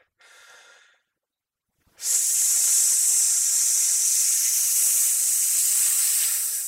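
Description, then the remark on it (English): A short breathy inhale, then after a pause a long, loud, steady hiss of air forced out through the teeth during a breathing exercise, done while clenching the butt cheeks and pulling in the abdominal muscles; bright and sustained for several seconds with no voice. “So but it just hiss and clench my butt cheeks while I'm doing it.”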